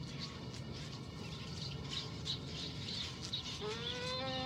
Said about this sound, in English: There's the puppies.